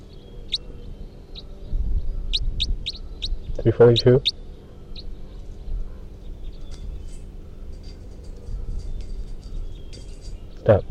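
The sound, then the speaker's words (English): A bird, being recorded as bird 342, gives a series of short, high chirps, four in quick succession, then a louder, fuller call, with a final chirp near the end, all over a steady low background hum. “So recording bird 342.”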